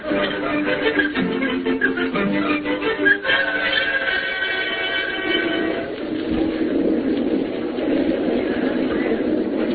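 subway train riding

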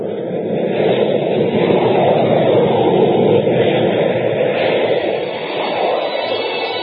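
airplane engine in flight

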